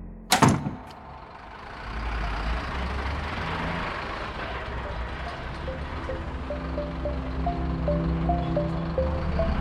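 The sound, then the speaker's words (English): A woman shuts a door with a single sharp thud near the start, followed by a steady low rumble of an idling vehicle engine with a faint repeating tonal beep in the background. “Then she closed the door before Henry could ask anything more.”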